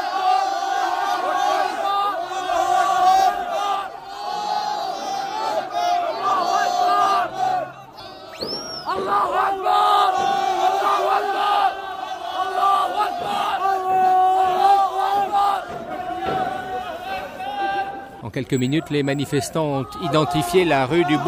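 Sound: crowd of protesters shouting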